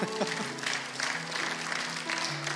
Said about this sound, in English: And, you know, you can clap for them. They're awesome people.